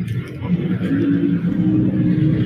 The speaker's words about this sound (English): Wow. Big truck. Okay, so no sound insulation in here.